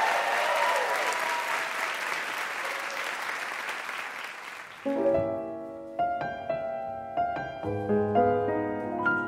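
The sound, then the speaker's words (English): A crowd claps steadily and loudly for about five seconds as a singer is introduced before a song, then the applause stops as music begins, with a series of distinct melodic notes struck one after another. “The sound of applause is delicious.”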